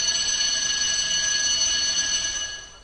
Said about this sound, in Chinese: 好了，打铃了，快去上课吧。